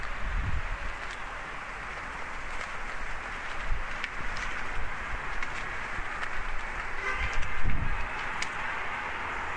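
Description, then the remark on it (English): The Spadina streetcar rolls along Spadina, a city street with a lot of traffic, its steady rumbling hiss blending with wind and outdoor noise, swelling slightly as it passes. No one speaks. “Oh, and here comes the Spadina streetcar.”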